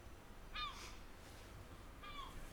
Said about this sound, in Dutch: Hé, luister, een merel.